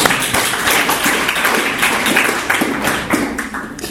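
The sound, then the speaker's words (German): An audience claps steadily for about four seconds, a dense, loud patter of many hands with a few sharper individual claps standing out, and no talking. “Also, gell, muss sagen, echt, es ist echt immer ein Applaus wert, finde ich.”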